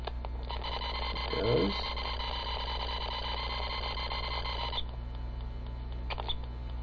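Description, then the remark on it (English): A computer going back into system repair: a steady electronic tone with stacked harmonics holds for several seconds and then cuts off, followed by brief chirping blips over a constant low hum; no one speaks. “We've heard this little chirping sound before.”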